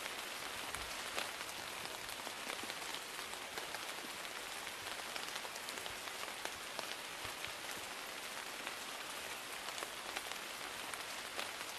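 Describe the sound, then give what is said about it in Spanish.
Steady rain patters down on tree leaves and earth, a dense, continuous hiss of countless drops with occasional sharper taps, even throughout with no voices. “Estamos escuchando el sonido que hace la lluvia al chocar en las hojas de los árboles y la tierra.”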